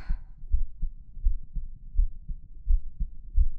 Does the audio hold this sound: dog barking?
no